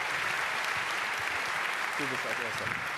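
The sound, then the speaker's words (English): Steady, dense applause from an audience welcoming a speaker to a talk on how Volkswagen cheated on emission control, a continuous wash of clapping, with a few faint voices rising briefly underneath near the end. “So, your applause, and I'm going to take over the pitch here.”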